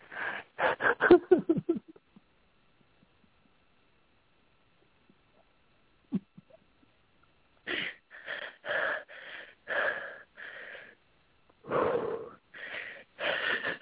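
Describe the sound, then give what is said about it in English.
Strained, wheezing breaths through a tight throat, loud: a quick shuddering cluster, a long pause, then a steady run of rasping gasps. No talking. “Okay, so open the throat, soften the breathing. Yep. Notice how your throat wants to close it off.”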